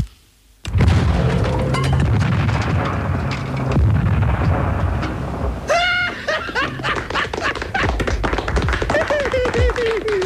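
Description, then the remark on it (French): A sudden loud whoosh as petrol is ignited with a lighter, followed by a roaring burst of flames that sustains for several seconds while people shout and talk excitedly. “donne-moi un briquet, s'il te plaît. Je vais me foutre le feu.”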